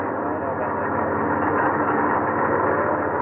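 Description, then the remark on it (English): Steady, dense engine rumble from a convoy of trucks rolling over the newly built military highway from Dawson Creek, Canada, to Fairbanks, Alaska, continuous and fairly loud throughout, with a broad low-to-mid drone and no voices. “Hardly had they finished it when the first convoy of trucks rolled over.”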